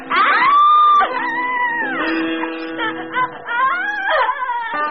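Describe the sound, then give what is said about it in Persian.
A woman cries and wails in long, loud, sobbing cries whose pitch rises and falls, with brief catches of breath between them and no other sounds. “اون از صدای گریه زنش بیدار شد.”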